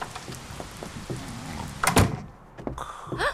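The old wooden door of a mill creaks and scrapes as it is pushed open in the rain, followed by a heavy thump near the end and a couple of squeaky groans, with no talking.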